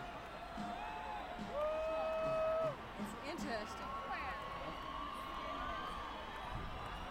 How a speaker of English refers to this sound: hard to hear the screamers.